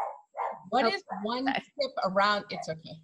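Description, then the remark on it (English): Dogs bark in a rapid, uneven string of sharp yaps and woofs, maybe six or seven in three seconds, with no other sound between them. “Sorry about the dogs.”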